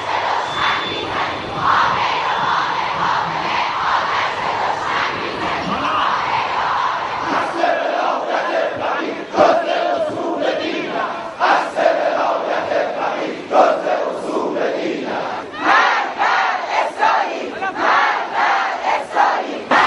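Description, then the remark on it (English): A large crowd of demonstrators in Iranian cities such as Qom, Arak and Shiraz shouts together in a dense, steady roar, then settles into rhythmic chanting of slogans, with repeated loud bursts of voices rising and falling in a regular beat. “The demonstrators in Qom, Arak, and Shiraz, among other cities, shouted, "Rioter, hypocrites must be executed,"”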